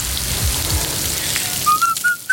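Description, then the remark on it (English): Beef burger patties, made from whole cuts of beef from farms across Britain and Ireland and seasoned only with salt and pepper, sizzle with a steady, dense crackling hiss, like rain on a surface, while a thin high whistling tone rises in brief steps toward the end. “That sizzle speaks louder than words.”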